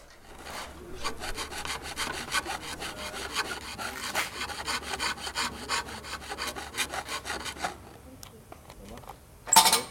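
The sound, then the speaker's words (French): A hand file rasps steadily against wood in quick, regular back-and-forth strokes for several seconds, fairly loud, while a sign is being made, then stops, followed by a brief sharp knock at the end. “Je m'occupe de la découpe et toi de la lime.”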